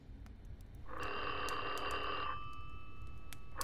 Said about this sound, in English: The ringing of a telephone with an unknown caller has become a standard horror movie trope, and there's definitely something eerie about a silent house with a ringing phone.